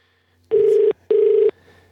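Two steady electronic ringback tones, each about a second long with a short gap between, sound over a faint background hum, like a phone line ringing on an outgoing call.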